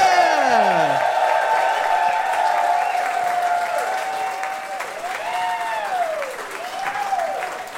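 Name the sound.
audience applause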